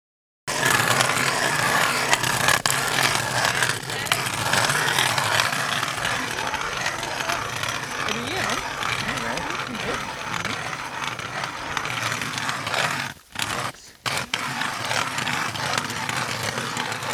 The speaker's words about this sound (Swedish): deltagarna sprider ut sig runt honom och borrar sig ner genom den nästan 80 cm tjocka isen i hopp om att få upp det röda guldet ur djupet, fjällrödingen.